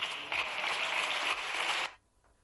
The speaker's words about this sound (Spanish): Sonaban los aplausos.